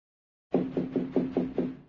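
Five quick, evenly spaced knocks on a door at 7:30 in the morning, firm and resonant, over a faint low hum. No voices, and silence comes before the first knock.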